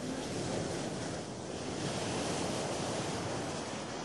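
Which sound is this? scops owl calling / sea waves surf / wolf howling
sea waves surf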